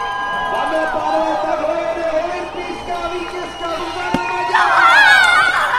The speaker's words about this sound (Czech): Její kvalifikační jízdy doprovází ve svatém Petru hlasitý potlesk a jásot.